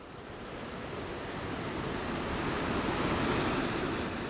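A waterfall rushes in a steady, dense roar of white noise that fills the whole range and slowly swells slightly louder, with no voices.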